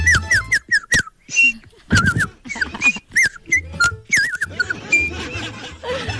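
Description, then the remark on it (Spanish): A man imitates a dog with a quick run of high, squeaky whines and yips in short, uneven bursts, fairly loud, with some breathy noise between them. “Mira, el amigo hablando ahí su idioma perro.”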